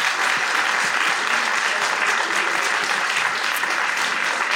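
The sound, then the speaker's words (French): An audience applauds steadily as two guests, the creators of the Instagram account origine.tv, are invited to come up and join the hosts, a dense wash of many hands clapping at a constant loud level throughout, with no voices standing out. “On les applaudit.”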